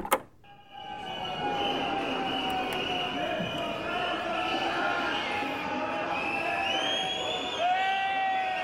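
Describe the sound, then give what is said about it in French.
Archival recording of a dense roar of a large crowd of revolutionary protesters gathering, many voices blending into a steady din with shrill whistle-like tones rising above it, starting after a sharp opening knock. “Vous entendez le bruit de la foule ? Archives d'époque.”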